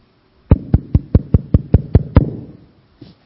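A quick, even series of nine hollow taps on a water pot, each with a resonant ring that lingers, followed after a short pause by one faint final tap.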